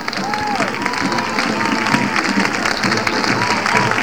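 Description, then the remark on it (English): A large crowd applauds and cheers steadily, with two sections standing up, a dense wash of clapping with whoops and shouted voices rising through it, sustained and fairly loud throughout. “Let's pick the crowd up.”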